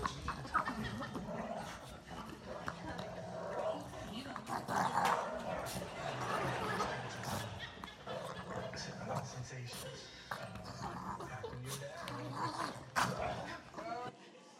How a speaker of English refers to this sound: Like, I don't know, that thing couldn't hardly breathe. It had been the loudest dog I've ever been around, just trying to survive, just trying to draw a breath.